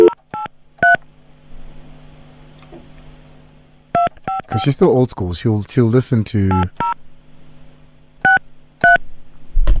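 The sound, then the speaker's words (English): Telephone keypad dialing tones on the studio phone line: about nine short, steady beeps tapped out in small clusters, with a person talking briefly between the groups. “We're going to use the line in the studio.”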